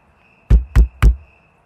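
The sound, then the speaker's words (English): Three firm, evenly spaced knocks on the door of a house, heavy and low, sounding alone over a faint steady high-pitched hum, then quiet. “The only people who showed up were family, and they didn't knock.”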